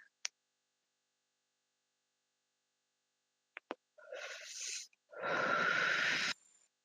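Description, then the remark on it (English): A vape pen is clicked five times to switch it on and then puffed: a few sharp clicks, then a short airy drawn-in inhale, followed by a louder, longer breathy exhale hiss lasting over a second, with no talking. “So, in order to use it, you click it 5 times and I'll take a little inhale. I'll inhale it for you guys.”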